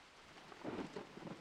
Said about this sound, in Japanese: ま、雨降ってきた。